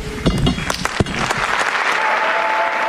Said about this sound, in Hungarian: A szokásos módon nagy tapsviharral zárul a mai audiencia.